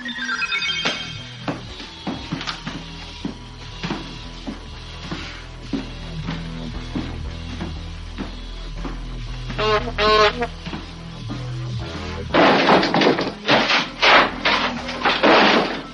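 Quirky electronic sound effects of a 1980s robot: a steady stream of ringing bleeps and tinny ticks, a wobbly warbling chirp midway, then a loud run of crackly, buzzing bursts at the end.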